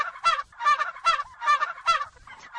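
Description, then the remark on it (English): Turkeys on a farm outside Monticello, Illinois gobble in a quick run of rattling, burbling calls, several loud overlapping bursts, with no talking. “Connie and John Caveney have been raising turkeys, turkeys allowed to express their full turkeyness, on their farm outside Monticello, Illinois”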